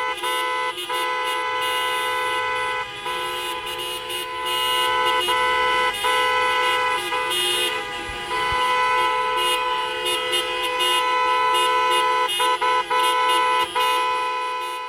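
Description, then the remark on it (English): Several car horns from a caravan of stalled gray cars on a two-way street outside the Bordeaux prison blare at once in a loud, continuous chorus, their overlapping sustained tones holding steady for the whole stretch with only brief dips, and no one speaking. “The honking goes on for a few minutes until Nadia leaves her car headed for the black spiked gate that surrounds Bordeaux.”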